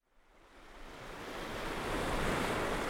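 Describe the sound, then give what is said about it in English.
Waves wash onto the shore of Whitefish Dunes State Park in Door County, Wisconsin, carrying fine sand, in a steady, building rush of surf that swells louder over a few seconds, broad and noisy, with a faint breath of wind and no voices. “Waves are crashing under the shore of Door County's Whitefish Dune State Park.”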